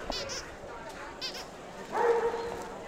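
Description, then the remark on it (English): A dog lets out a drawn-out, whining bark at the Golden Gate Kennel Club Dog Show, with a few shorter yelps earlier, amid the busy murmur of a crowd. “This year's Golden Gate Kennel Club Dog Show happens January 30th and 31st.”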